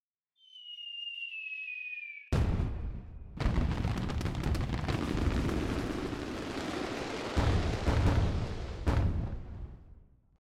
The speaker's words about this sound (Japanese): 終わってしまいましたね、花火。とっても綺麗でした。